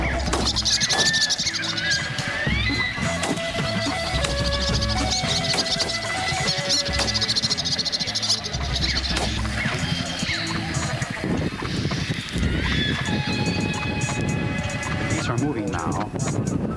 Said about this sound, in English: Behind us in the dark swamp, wood ducks are calling. The whistling or peeping of the males easily distinguished from the cries.